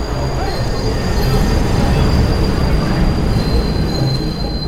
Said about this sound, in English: And they put me on the Metro North train from Bedford Hills to Grand Central Station.